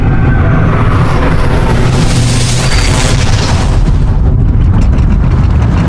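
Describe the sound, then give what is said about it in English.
A heavy, continuous roar and rumble of a train passing at Woking railway station, loud and steady throughout, with a faint high-pitched tone of the station signals briefly riding over it near the start. “The signals of Woking railway station.”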